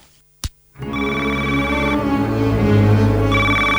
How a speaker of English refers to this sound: It's 3 a.m. and the phone's ringing in the White House. Who do you want to answer that call?